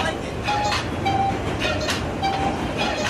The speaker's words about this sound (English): I think a lot of people feel strongly about missing this artery that connects us all, the New York subway system.